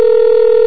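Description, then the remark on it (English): A telephone ringing tone on a call to the Federal Trade Commission's Identity Theft Hotline, one loud, steady electronic hum that holds unbroken for the whole brief moment, with no voices over it. “That's a long ring.”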